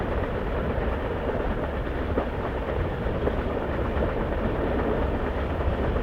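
A train rolling on rails: a steady, dense low rumble holds for the whole stretch, with a few faint clacks of the wheels surfacing now and then. No one speaks.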